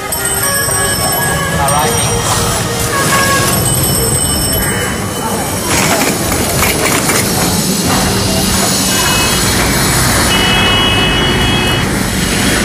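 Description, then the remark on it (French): Dense, steady roar of city traffic while crossing an immense square in Dakar, with engines rumbling and occasional ringing, bell-like tones over the din. Voices murmur faintly beneath the constant noise. “Ici, à Dakar, au milieu de cette immense place que nous traversons.”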